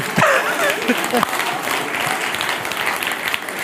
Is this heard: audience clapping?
yes